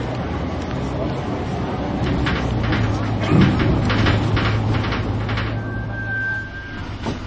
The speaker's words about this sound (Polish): Wsiadam do autobusu.